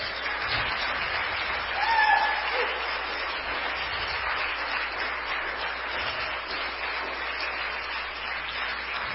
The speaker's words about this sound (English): In Jesus' name, let somebody clap your hands.